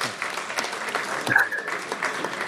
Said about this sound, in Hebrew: אפשר מחיאות כפיים, חברים.